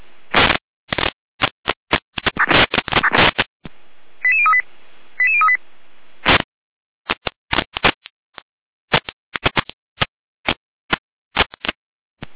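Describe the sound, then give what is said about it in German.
Emergency dispatch radio alerting tones from the Gera control centre: two short, paired electronic beeps in the middle, surrounded by rapid, crackly bursts of radio data noise that stutter irregularly on both sides, with no voices. “Leitstücke Gera mit Alarmierung.”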